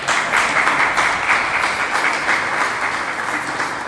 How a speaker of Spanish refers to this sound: A ver, los que me conocen, los pocos que me conocen en esta sala saben que si no me reciben con un aplauso no voy a poder hablar, porque me voy a poner muy nervioso.